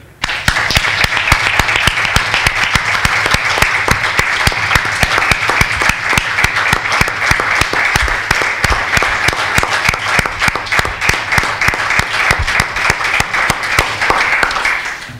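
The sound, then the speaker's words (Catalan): Sustained audience applause dedicated in tribute to a woman, many hands clapping in a dense, steady patter at even loudness for about fifteen seconds, with no voices standing out. “Voldríem dedicar-li un aplaudiment perquè a ella li agradava força i energia.”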